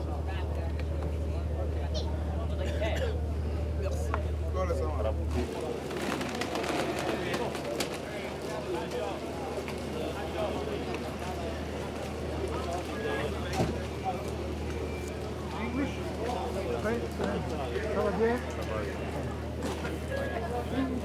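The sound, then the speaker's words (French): A boat's engine drones with a steady low hum, which drops away after a few seconds as people leave the boat up the last stairs onto land, giving way to busy open-air noise, with people talking and moving about. “Là, on sort du bateau.”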